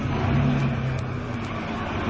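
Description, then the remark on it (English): A heavy fire engine revs as it pulls out of the fire station, its deep engine rumble loud, a low droning hum rising briefly before settling into a steady roar with no voices. “those are the doors of the station opening, I'm getting onto the engine, I'm in it.”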